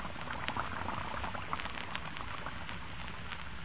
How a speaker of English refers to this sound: We're going to give you a sound picture of what happens when you put Lux Flakes into your dishpan. First, you pour in a few flakes. Then you turn on the water, and almost at once the flakes melt into a soft, frothy mass of bubbles. Listen to them.